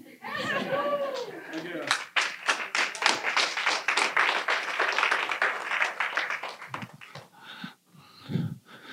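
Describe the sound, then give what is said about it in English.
A brief voice gives way to a light, steady patter of polite golf clapping from a group, sustained for several seconds before fading, with a voice returning at the end. “Golf clap.”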